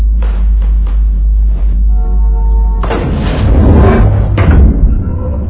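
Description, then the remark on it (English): A few light knocks lead up to a heavy door with a motion detector slamming shut, its loud bang followed by a rattling, rumbling crash and a second thud, with no voices. “That door is a hazard.”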